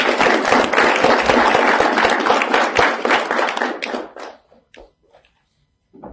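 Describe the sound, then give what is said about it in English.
A crowd applauds steadily with dense, overlapping clapping for about four seconds for an association's patron, then it thins out into a few scattered claps before falling quiet. “So please, you have a passionate leader here, you have a passionate patron, give her a round of applause.”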